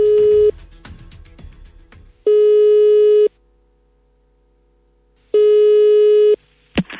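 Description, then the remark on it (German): A telephone ringback tone of an outgoing call: a steady, buzzy electronic beep, about a second long, repeating after pauses of roughly two seconds, heard clear, then a brief click as the call connects. “Leitung steht, wir rufen jetzt durch.”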